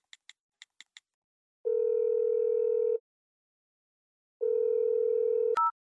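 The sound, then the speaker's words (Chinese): A few quick keypad beeps as someone phones their mother, then two long, steady telephone ringback tones separated by a pause, ending with a sharp click as the call connects. Clear, no voices. “那你等我，我给我妈打个电话，汇报一下。”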